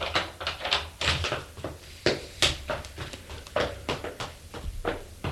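A man in a corridor rapidly opens one door after another while searching for someone, with repeated knocks, clacks and thuds following one another irregularly for several seconds; no one speaks.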